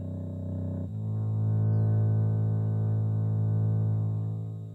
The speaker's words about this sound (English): Now another ancient Greek scale. The 13 sub-bass reeds descend to a 33-cycle tone, the lowest C on the piano.